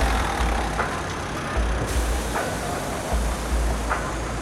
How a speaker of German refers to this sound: als sich plötzlich ein Auto nähert und neben T-Rex anhält